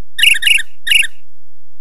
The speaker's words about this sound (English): The birds were twittering.